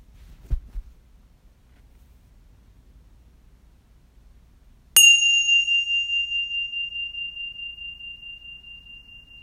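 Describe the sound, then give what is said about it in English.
A single gentle meditation chime is struck once after a quiet pause to signal the beginning of a meditation, its clear bright tone ringing out and slowly decaying with a soft pulsing shimmer. No one speaks. “I'll ring a gentle chime to signal the beginning and the end of the meditation.”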